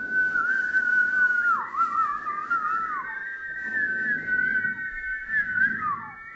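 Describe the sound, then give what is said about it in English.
A person whistles a slow, sustained melody of steady tones with gentle pitch slides to close a prayer, clear, with a soft low hum beneath and no talking. “So, Lord, we say yes to You. Close it by whistling.”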